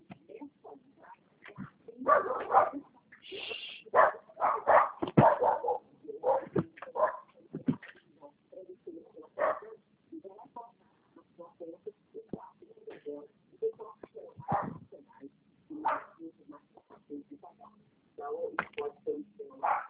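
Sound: dogs barking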